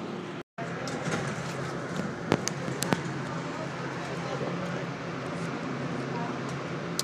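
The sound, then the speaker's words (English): A person heads down into a busy subway station: a steady wash of crowd murmur and echoing noise, with a few sharp footsteps or knocks and a brief cut near the start. “I'm about to go down in the subway here.”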